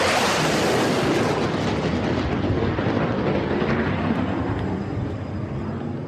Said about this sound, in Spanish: Esto es un boom sónico, el estruendo que provoca un avión cuando rompe la barrera del sonido, es decir, cuando viaja más rápido que el sonido.